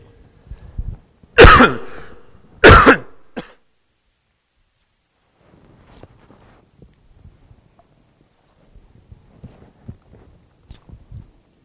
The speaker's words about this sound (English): May have to cough the rest of my life, but like I said, it's grace sufficient.